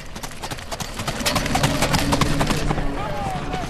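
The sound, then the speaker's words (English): Racehorses gallop past in a rapid, thudding drumroll of hoofbeats, loud, with faint voices or an announcer murmuring underneath, as a horse race wraps up at 4 p.m. at Harrah's Philadelphia Casino and Racetrack in Chester. “It's 4 p.m., and a horse race wraps up at Harrah's Philadelphia Casino and Racetrack.”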